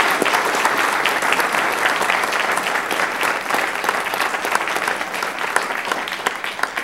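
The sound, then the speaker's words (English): Sustained audience applause at a public meeting, a dense, steady patter of many hands clapping for about seven seconds without talk over it. “Let's give everyone else another round of applause.”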